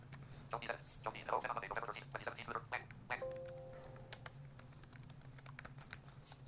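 Rapid, uneven keystrokes clatter on a malfunctioning computer keyboard over a low steady hum, with a brief electronic beep partway through and scattered clicks trailing off.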